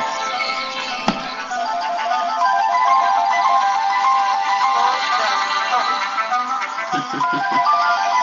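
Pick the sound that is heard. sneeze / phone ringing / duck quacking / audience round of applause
phone ringing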